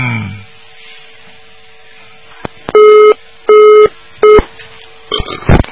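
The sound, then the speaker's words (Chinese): A telephone busy signal on a congested phone line during a radio call-in sounds in three loud, evenly spaced tone bursts over a steady low line hum, with a couple of sharp clicks before and a burst of crackly line noise at the end. “哎呀，电话线太挤了，这麻烦了，嗯。”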